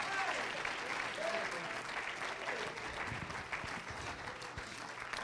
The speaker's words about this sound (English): Somebody say praise the Lord. Clap your hands into him and lift up your voice. Magnify him.